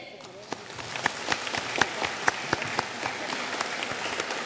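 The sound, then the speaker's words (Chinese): Warm applause from an audience gathered at a Buddhist event in San Francisco, welcoming Lu Junhong to the stage to speak: dense, steady clapping with many overlapping hands, a few sharper claps popping out, sustained at a moderate level throughout. “现在，让我们用最热烈的掌声，恭请尊敬的卢军宏台长为我们慈悲开示。”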